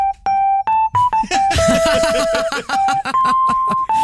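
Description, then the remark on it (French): A voice mimics a telephone ringing at a police station in Molina de Segura, Spain, with a string of high, sustained, slightly shifting tones, while rough, noisy bursts and laughter-like sounds crowd the middle of the imitation. “Soudain, le téléphone sonne.”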